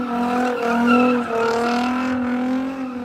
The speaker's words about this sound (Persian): امروز دومین دور نمایشات موتورسپورت ولایت بلخ در شهر ترمز در بازار مشترک میان افغانستان و ازبکستان برگزار شد که خوشبختانه مورد استقبال خیلی گسترده مردم ازبکستان قرار گرفتن